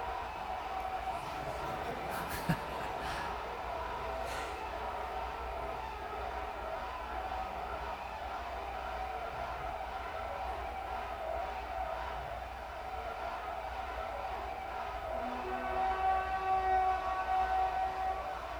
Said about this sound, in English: Spontaneous rejoicing breaks out. This went on for 2.5 hours.